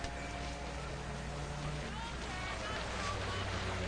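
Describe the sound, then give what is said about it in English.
A police boat engine idles steadily offshore on open water, a constant low rumble with a faint hum beneath a broad wash of water and wind noise, unchanging throughout. “Now, offshore, a police boat idles on the water.”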